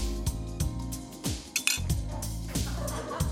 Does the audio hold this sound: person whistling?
no